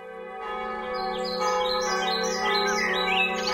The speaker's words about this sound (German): Glockenklänge wehen mit dem Frühlingswind über die Wiesen unweit der Stelle, wo der Rhein Deutschland an der niederländischen Grenze verlässt. Die Glocken läuten in der St. Peter- und Paul-Kirche in Kranenburg, die eine der ältesten Wallfahrtskirchen